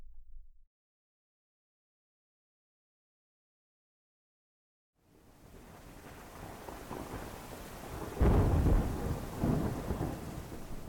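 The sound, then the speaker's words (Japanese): After several seconds of silence, heavy rain sweeps in as a dense steady roar, and a deep rumble of thunder swells loudly around the eighth second before settling back into the downpour. “やれやれ、ひどい雨だ。雨は好きですが、今日の雨はなんというか、暗くよどんでいる。”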